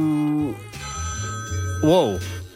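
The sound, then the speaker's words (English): A sampled telephone bell rings steadily inside a musical mix, its bright high tones sustained over a pulsing low bass, with a swooping, bending tone near the end. “There's just random phone samples.”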